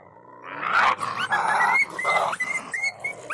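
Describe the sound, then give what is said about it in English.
Recorded coyote vocalizations from a call, shoot, drag hunting call file made entirely of coyote vocals: a loud flurry of overlapping yips, whines and rising yelping notes that break into short bursts, with no talking. “BFA's CSD files, short for call, shoot, drag, 1 through 5, are made up of 100% coyote vocals from BFA's existing library.”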